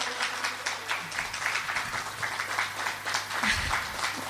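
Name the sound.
audience applause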